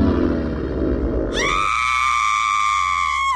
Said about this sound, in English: The witnesses heard a disturbance and a loud scream.